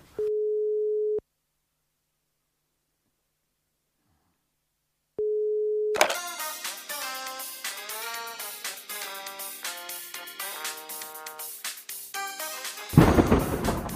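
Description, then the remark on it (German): A telephone dial tone sounds in two steady, clear beeps separated by a few seconds of silence, then busy music with many layered notes takes over and ends in a burst of noise. “Hör mal leise. Ich habe gleich ein Amt.”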